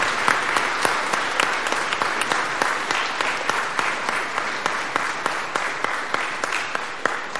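An audience applauds steadily for several seconds, a dense wash of clapping hands with sharp individual claps popping out, holding at an even loudness throughout with no voices, applauding a sighted woman for her lifelong help to blind people.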